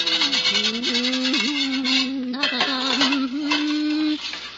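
Continuous rasping scrubbing against a metal pot in a kitchen, with a steady low ringing hum underneath, lasting about four seconds before stopping abruptly; pots being scrubbed clean of the remnants of the evening meal.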